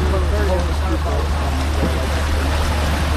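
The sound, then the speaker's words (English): A steady, low droning rumble of a C-130 aircraft passing overhead under a clear blue sky holds constant throughout, with faint voices murmuring beneath the engine noise. “C-130?”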